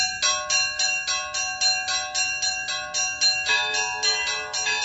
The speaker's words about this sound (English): I ring the two smallest bells, usually, and I will usually set up a rhythmic pattern, which usually sets the speed that we're going to operate at. And the other bell ringers will join in basically taking the same tempo that I have, but with their own